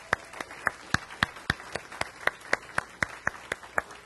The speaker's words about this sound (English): If you would join me in giving her an applause, thank you.